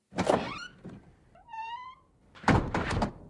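A door opens with a rattling clatter, gives a short rising creak, then shuts with a solid, noisy thud a moment later as a person heads out the door, fairly loud.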